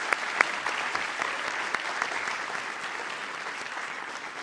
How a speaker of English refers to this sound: That is our final question for the evening. Thank you so much. Would give everybody a round of applause.